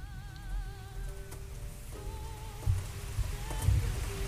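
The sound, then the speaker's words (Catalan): Scattered raindrops patter and drip onto a surface after the rain has stopped, with a few louder drops standing out against a soft, steady background and faint sustained tones. “Ha deixat de ploure, però... Sents, no?”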